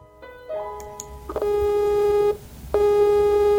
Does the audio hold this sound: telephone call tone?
yes